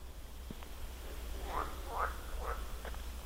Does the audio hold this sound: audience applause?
no